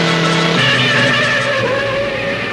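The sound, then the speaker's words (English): Loud, sustained tire squealing as a convertible and a sedan swerve and skid into a driveway, the screech shifting pitch partway through and holding steady to the end, unbroken, with no voices. “They swerve and skid into Jenny's driveway.”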